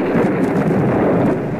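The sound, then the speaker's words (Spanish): A loud, sustained rumble of thunder rolls continuously, dense with no pauses, and no one speaks over it. “Va a llover.”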